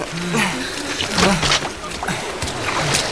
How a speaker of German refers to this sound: Ah, das Boot kentert. Aber das Wasser ist so flach, dass er stehen kann. Ja, aber nicht lange bei diesen Wellen.